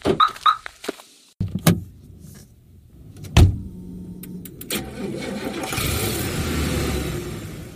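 A few sharp clicks and a thud, then a car engine starts up and settles into a steady, rumbling idle with a faint hiss. No one speaks.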